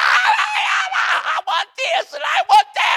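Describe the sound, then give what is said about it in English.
A voice imitates a screaming, whining child in a shopping cart at Walmart: loud, shrill wails broken into several choppy bursts with short gaps between them, and no other sounds around. “You hear these yelling, crying, screaming kids in these carts that parents are pushing around.”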